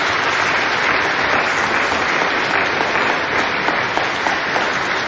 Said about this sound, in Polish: Tak się pięknie składa, kochani, że ten najmłodszy nasz ojciec, który ma zaledwie 89 lat, dzisiaj ma swoje imieniny. Myślę, że brawa się temu człowiekowi należą.